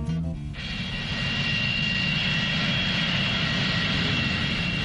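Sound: airplane engine roar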